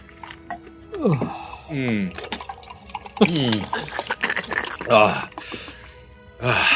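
Liquid is poured into a cup twice, the gurgling pitch rising as it fills each time, with brief clinks and handling noises in between.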